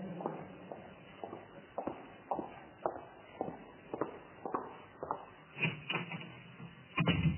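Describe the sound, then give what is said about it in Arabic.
A dozen or so steady footsteps walk across a room at an even pace, followed near the end by a heavier thump as the door of a study is shut. Muffled, and no one speaks. “في غرفة المكتب، وأغلق الباب على نفسي حتى لا يراني الأبناء.”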